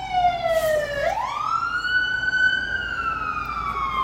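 A loud emergency siren from an ambulance or fire truck driving by wails, its pitch sliding down then sweeping back up in a long rising tone over steady road rumble, with no one talking.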